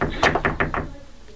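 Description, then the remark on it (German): Hesitant knocking: a girl gives about five light, quick raps on the door of an attic room in a short uneven run, fairly soft, followed by a quiet pause. “Zaghaft klopfte sie an die Tür.”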